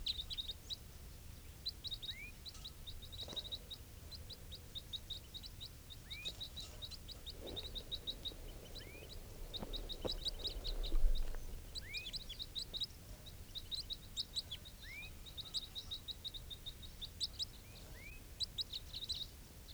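wild bird calls

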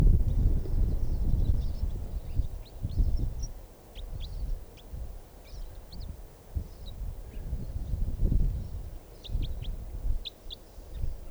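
wild bird calling

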